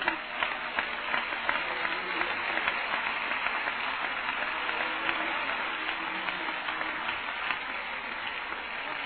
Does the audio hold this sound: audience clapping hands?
yes